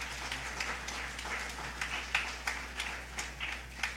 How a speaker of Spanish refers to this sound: Démosles un fuerte aplauso a los hermanos.